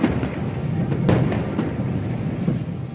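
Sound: explosion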